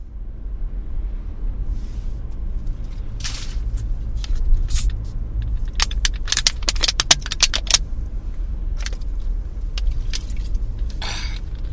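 Irregular bubbling, fizzing crackles burst in quick clusters over a steady low engine-like rumble, with sharp bright pops scattered throughout and no voices.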